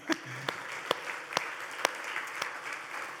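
A crowd claps steadily, a dense patter of many hands with a few louder individual claps standing out at irregular moments, sustained throughout at moderate loudness.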